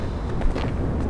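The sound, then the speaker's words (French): A brief, steady roar of an airplane flying very low overhead, a dense rumbling wash of engine noise with a faint hiss on top and no voices. “Putain, c'est un avion. Mais il vole vachement bas.”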